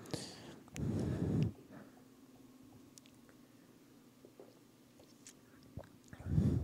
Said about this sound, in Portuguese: Deixa eu pegar minha Bíblia aqui e tomar um golinho de água.